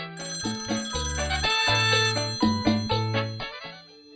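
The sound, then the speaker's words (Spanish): A telephone rings with a bright, melodic ringtone, a quick run of electronic notes stepping up and down, fairly loud, playing on its own for about four seconds with no voices. “Suena el teléfono”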